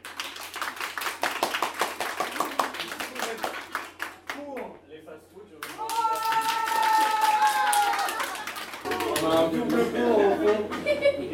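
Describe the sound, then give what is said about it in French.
An audience bursts into rapid, dense clapping for a few seconds during a game, to show they are against fast food, then it fades out and voices and crowd murmur take over, growing louder toward the end. “S'il vous plaît, je vais vous demander d'applaudir si vous, vous êtes contre les fast-food maintenant.”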